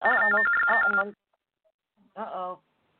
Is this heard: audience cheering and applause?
no